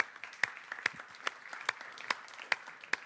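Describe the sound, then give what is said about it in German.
Sparse, irregular clapping from a small audience at a live recording, applauding Sebastian Hell, who is in the audience, with distinct sharp claps spaced through the moment over a faint murmur, fairly quiet and not a full roaring applause. “Ein Applaus für Sebastian Hell, der auch im Publikum ist.”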